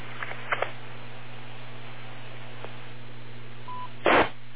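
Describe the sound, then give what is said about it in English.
A telephone left off the hook bleeps in short electronic bursts, a couple near the start and a louder one at the end, over a steady low electrical hum on a thin, narrow-band line. No one speaks. “But I got a phone that's bleeping away on me. I left it off the hook.”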